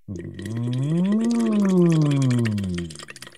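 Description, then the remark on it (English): A voice hums one long note through a straw into a small bottle or tall glass half filled with water, rising in pitch then sliding back down, with a continuous bubbling burble over it. Fairly loud, no talking. “Next, sing through that straw.”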